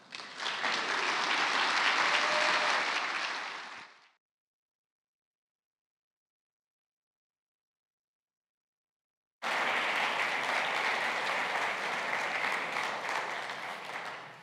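Loud, sustained audience applause at a church gathering for a young woman who has just spoken, filling the first four seconds, breaking off into silence, then a second full round of clapping returns and continues steadily to the end.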